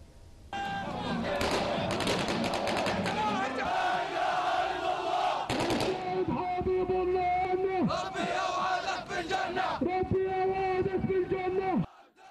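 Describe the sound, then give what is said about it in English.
A large crowd of mourners at a Palestinian funeral march in Khan Yunis, Gaza, carrying a body to a mosque, chants and shouts loudly in unison while rapid bursts of gunfire crackle through the noise, sustained for several seconds before the chanting continues alone. “Gunfire was heard throughout the march.”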